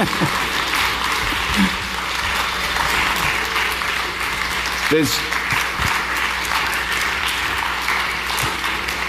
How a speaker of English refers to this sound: But I'm going to invite those people to come up now, and let's give them a warm welcome as they come up. Keep applauding, because they're not up here yet.